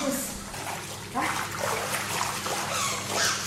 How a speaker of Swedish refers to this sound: Här är 1,20. Så de ska ju inte... Det får vara en stor hund om den ska, om den ska nå botten. Så ja. Nu. Nu är den. Ja, Nu är det simma som gäller.